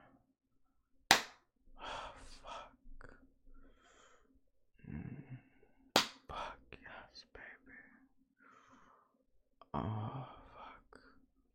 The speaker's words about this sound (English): Not knowing when I'm gonna spank you. Fuck. Yeah, you like when I spank that ass. It's supposed to be a punishment, baby. But you just can't help it. Each slap just getting you wetter and wetter.